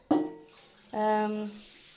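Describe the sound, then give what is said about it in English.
A bathroom sink tap turns on twice, water running in a steady stream with a ringing, whistling pipe tone under the flow, as someone tops up drinking water at the sink. No one speaks. “Yes, I do top it up at the bathroom sink because I don't really want his germs.”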